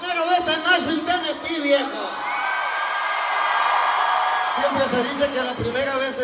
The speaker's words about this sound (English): But here he is, standing in front of a roaring crowd of thousands of Latinos braving a torrential rainstorm in the capital of country music, Nashville, Tennessee.